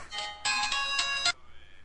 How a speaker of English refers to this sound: I'm getting a phone call.